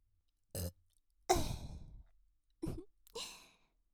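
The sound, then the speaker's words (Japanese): Several burps in a row: a short one, then a long drawn-out rumbling belch, followed by two more brief, breathy ones with pauses between them. “ゲップするだけの動画になってます。”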